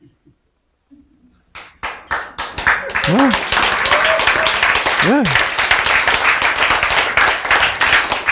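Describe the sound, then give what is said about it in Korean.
A few scattered hand claps quickly build into loud, dense, steady clapping from a group of people, with a couple of short spoken words rising over the noise. “박수 치는 사람이 유리하다고 했습니다.”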